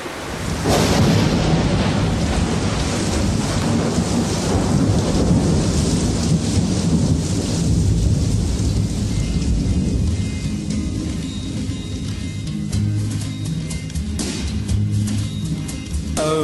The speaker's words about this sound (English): Raindrops, so many raindrops, it feels like raindrops falling from my eyes